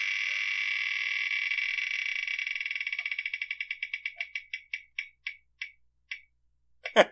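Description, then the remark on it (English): A prize wheel spun to pick a category spins with a rapid, buzzing blur of ticks that gradually slows into distinct, spaced-out clicks, ending with one last louder clack as it stops. No voices are heard. “Let's spin the wheel.”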